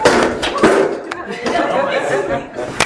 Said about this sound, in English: I just destroyed your music. If you're new here, that's not the first time I've ever knocked anything over.